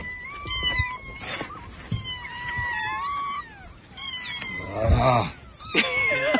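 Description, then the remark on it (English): Several kittens being rescued meow loudly and overlapping in the open trunk of a Honda car, high wavering cries coming in quick succession, with occasional thumps and shuffling underneath as a man puts cats in and others jump out. “every time he has the trunk open, every time he puts one cat in, another one jumps out.”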